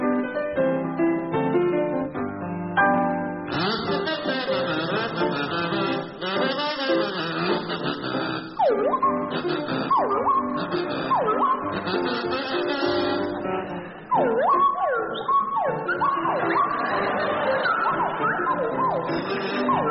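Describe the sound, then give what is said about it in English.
A kazoo played by Willie Rushton and a swanee whistle played by Jeremy Hardy play a tune together, the kazoo buzzing steadily while the whistle swoops up and down in sliding glides, loud and continuous with no talking. “it's to feature Willie Rushton on kazoo and Jeremy Hardy on the Swanee Whistle.”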